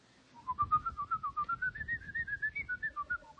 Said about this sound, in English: By whistling a highly skilled, mysterious secret tune. Mm-hmm. The moment he hears it, he will hand you a sealed envelope. Heavily sealed. But the secret tune? It goes like this.